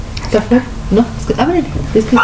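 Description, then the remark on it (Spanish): The speaker's small female dog yaps repeatedly in short, high-pitched bursts, fairly loud, with a quick uneven rhythm of about a dozen yips over a low background hum. “Y es que mi perrita quiere también estar, y tal vez hasta eso la haga de izquierda, Ramón.”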